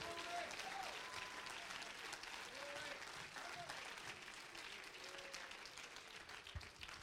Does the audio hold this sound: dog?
no